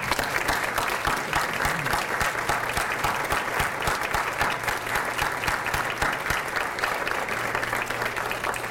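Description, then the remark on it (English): An audience at a school event applauds steadily to thank the sophomore class and kitchen staff, many hands clapping in a dense, even patter that holds at a fairly loud level throughout with no voices breaking through. “Please, let's express our gratitude with applause.”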